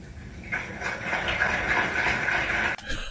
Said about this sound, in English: Now, you hear the crowd? And the muted applause that goes with that, that's because he said the quiet part out loud that you're not supposed to say.